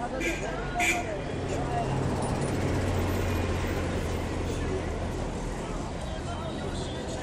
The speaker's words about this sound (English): There must be about 20 buses on the street right now. I haven't seen any cars. This is just like some kind of bus commune.